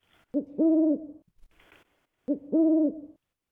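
An owl hoots twice at dusk as it grows dark, each call a short note followed by a longer, steady hoo, clear, with a brief soft rustle in the pause between calls.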